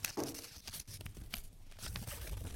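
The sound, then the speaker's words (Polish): Soft crinkling and rustling of a small slip of paper, drawn by lot, being unfolded, with brief crisp crackles scattered over a couple of seconds and no voices. “Rozwiń kartkę też ASMR, takie przed fajkiem.”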